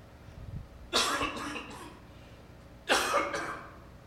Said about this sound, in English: I promise that was a cough because I was choking and not because I have a disease. Now my eyes are watering.